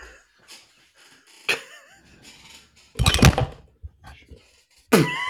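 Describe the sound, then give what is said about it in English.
A microphone gets knocked over, with loud thumps and rattling handling noise, the heaviest clatter in the middle and another bump at the end, with brief voice sounds in between. “I knocked over my microphone.”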